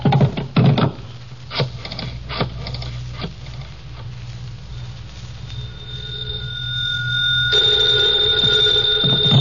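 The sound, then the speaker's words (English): A few sharp knocks and clatters, then a telephone rings with a steady, bright, sustained tone that grows louder toward the end. No one speaks. “Hand me the phone.”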